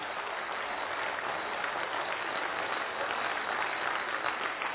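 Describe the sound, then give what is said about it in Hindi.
A crowd of participants claps for one another, steadily for several seconds, in a dense, even wash of many hands with no clear individual beats and no voices on top. “बजाइए ताली एक दूसरे के लिए।”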